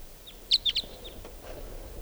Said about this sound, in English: Here it is. Here's the wild bird. And that bird is perched on the top of a tall larch tree right now.